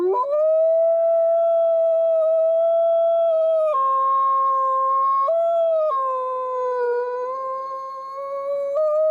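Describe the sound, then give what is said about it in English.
A dog lets out a long, sustained mournful howl, its pitch holding steady then shifting in slow steps, loud, with no other sounds around it, as snow starts falling during the burial of its sister. “he started having that mourning owl and it started just dumping snow”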